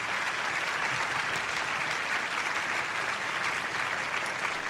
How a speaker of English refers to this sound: let's have a big round of applause for all five of our fabulous females.